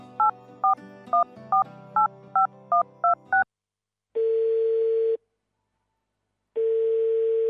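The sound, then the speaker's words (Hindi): Someone places a telephone call: a quick run of about nine short dialing beeps over a faint low hum, then two long, steady ringing tones separated by a pause of silence. “एक बेर फोन क के बुझती से नहीं। अच्छा लिया, लगबे छी।”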